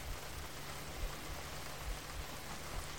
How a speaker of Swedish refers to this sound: Vi föreställer oss att vi står utomhus. vänder ansiktet upp mot himlen och låter de mjuka regndropparna möta ansiktets hud.